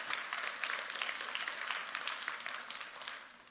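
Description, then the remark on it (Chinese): An audience applauds steadily, a dense patter of many hands clapping at once that holds throughout, with no voices over it. “哋俾掌声啊！”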